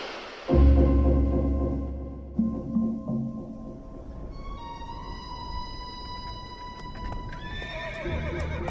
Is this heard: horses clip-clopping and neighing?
yes